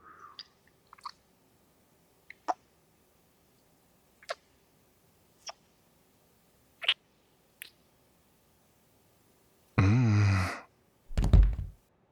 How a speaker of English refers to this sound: Sorry for knocking us onto the floor. Got a little bit carried away.